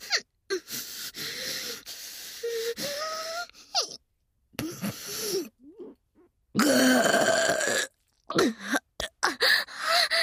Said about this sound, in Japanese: やった、でっかいの出た。なかなか大きなゲップでしたね。